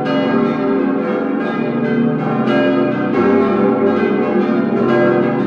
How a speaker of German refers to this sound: So eine Kirchenglocke, die hat ja in der Advents- und vor allem Weihnachtszeit Hochkonjunktur. Und damit da auch nichts schief geht an Heiligabend, werden solche Kirchenglocken regelmäßig gewartet und gestimmt.